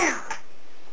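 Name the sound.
sneeze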